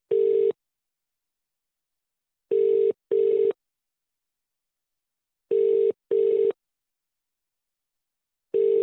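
A telephone call placed from a radio show to a young woman from Tipton rings out with a clear, steady ringback tone in repeating double pulses separated by short pauses, heard alone with no talking.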